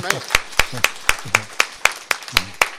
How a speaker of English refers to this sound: Did anybody feel that? Wow. that deserves a better clap than that.